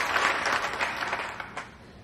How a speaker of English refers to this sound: Felicia's eyes glisten as she claps heartily.